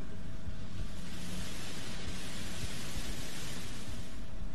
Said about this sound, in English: A more complex sound still is white noise.